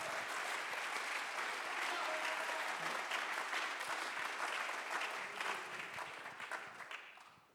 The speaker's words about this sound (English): Clap our hands here tonight.